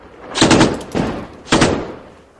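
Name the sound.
gunfire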